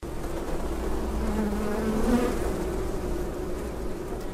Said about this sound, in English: So I'm just opening up the crown board now, so we'll just get to see. Oh wow! Get to see the bees, and they are starting to come out. They know you're here anyway. They're sussing you out.